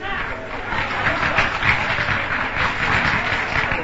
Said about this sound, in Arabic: بلاش تصفيق يا إخوان، بلاش يا إخوان.